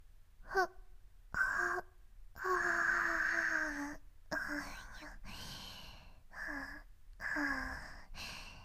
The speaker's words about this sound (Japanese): あくびが出ちゃいます。